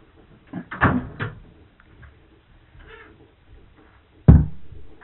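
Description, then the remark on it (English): A door creaks and knocks about in a short cluster of thuds, then after a quiet pause swings shut with one solid, low thump. No one speaks. “I don't know how they got that door up”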